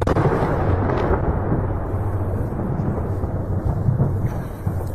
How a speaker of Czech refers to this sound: Ukrajinske vojne pozicije i infrastrukturu širom zemlje juče je pogodila prva serija ruskih raketa i vazdušnih napada.